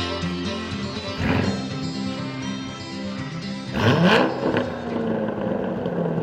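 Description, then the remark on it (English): A new Corvette's engine revs continuously with a rich, rumbling harmonic drone, surging louder in two sharp bursts, one brief and one longer, with no talking over it. “That sounds like one of your Corvettes, I tell you. That is a new Corvette, isn't it?”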